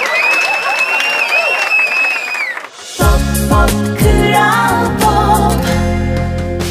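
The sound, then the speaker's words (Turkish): A crowd on a Kral Pop Radyo program claps and cheers for about three seconds, with a high whistle-like tone running over the noise, before loud music with heavy bass and drums cuts in. “Alkışlamak için programın sonunu beklesenize sanki başınıza neler geleceğini biliyormuşsunuz gibi.”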